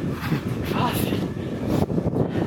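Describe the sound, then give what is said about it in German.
Loud, continuous wind buffeting a microphone, producing a dense low rumble that persists throughout with brief gusty swells and faint voice-like sounds mixed in. “Es windet ziemlich, ich hoffe sehr, dass ihr uns trotzdem noch verstehen könnt.”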